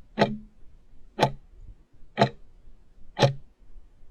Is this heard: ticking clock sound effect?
yes